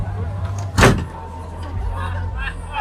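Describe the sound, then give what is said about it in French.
A single heavy thud of a door banging shut into a man's face, sharp, standing out briefly over a steady low rumble of background noise. “Deux secondes, il va se prendre la porte dans la gueule.”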